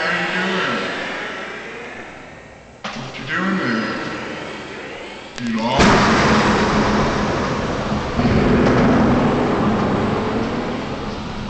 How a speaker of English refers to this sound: Better get out of the rain. It's thunder.